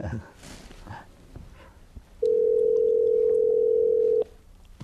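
A steady, loud electronic Skype call dialing tone holds one pitch for about two seconds, then cuts off abruptly. Quiet background noise and faint murmuring surround it.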